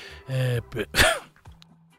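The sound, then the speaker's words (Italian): A loud cough bursts out after a short voiced throat sound, followed by a brief throaty catch, then quiet. “Per quanto riguarda, scusate, un po' di tosse”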